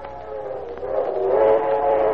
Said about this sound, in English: And then, from across the meadows, came the long-drawn whistle of a train, poignant, melancholy, and yet somehow expressive of excitement, adventure.